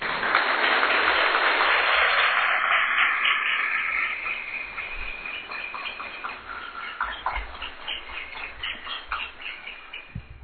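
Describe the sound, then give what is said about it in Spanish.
Audience applause at the 2018 annual Hispanic-American meeting in Pilar, north of Buenos Aires province, Argentina: a dense roar of clapping hands that is loud at first, then thins after a few seconds into scattered, uneven claps that keep going to the end. No one speaks. “Desde nosotros, a ustedes, un gran aplauso.”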